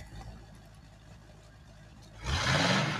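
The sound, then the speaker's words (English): A car engine idles with a low rumble in a garage, then revs up sharply and loudly near the end, its pitch climbing as the roar fills the garage. “Just gonna sit in the garage and rev the engine like I'm 8.”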